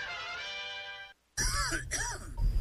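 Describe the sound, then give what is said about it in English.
A sustained hummed or droning tone, a brief silence, then a run of harsh, throaty coughs in loud bursts, about three in quick succession. “Did you know the average cough can travel distances of up to 6 feet?”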